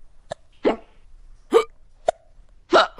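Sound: hiccup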